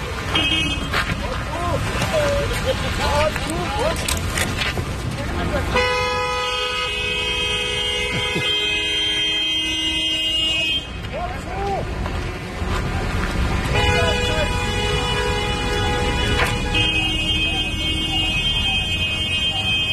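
A car horn blares in long, sustained honks, repeated several times over loud crowd shouting and commotion, with people yelling throughout, as a car refuses to pause and pushes through protesters blocking a street in Munich, Germany.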